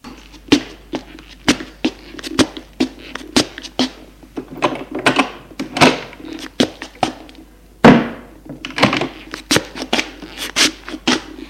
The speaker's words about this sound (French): Ouvre un tiroir du buffet pour en sortir un vieux portefeuille, ou plutôt un vieux maroquin en cuir marron.